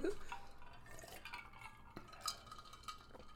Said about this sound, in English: So we're going to start today with a toast. So we'll hear us clinking. Ready? Huh? Kind of clinking. And taking a little sip.